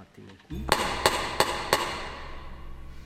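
Four loud, sharp hammer blows from a piece by Mahler in A minor land in a steady, evenly spaced rhythm, each ringing briefly over a low sustained rumble that carries on after the strikes stop.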